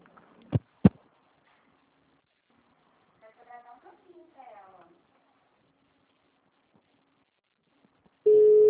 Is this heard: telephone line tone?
yes